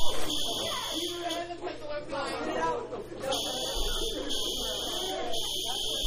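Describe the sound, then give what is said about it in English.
A fire alarm buzzer blares continuously with a harsh, steady electronic tone, briefly dipping before resuming, while several people chatter underneath it. “False alarm, probably a false alarm. This is a we're witness to a fire thing, fire alarm, and this is gone off.”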